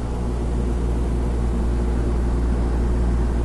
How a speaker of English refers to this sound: Now, if I go to the right, you can hear my air conditioning running.